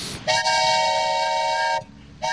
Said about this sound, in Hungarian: Ez olyan, mintha egy vonat érkezne. Vagyis vasparipa.